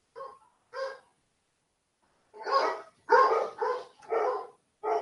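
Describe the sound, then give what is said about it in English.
Dogs barking in short, sharp bursts: two quick barks, a brief pause, then a rapid string of four or five louder barks, with no talking. “Sorry, the dogs are flipping, so I'm muting my mic.”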